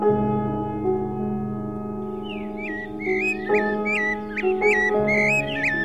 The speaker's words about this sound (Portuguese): Ouça o canto dos pássaros e procure harmonizar-se.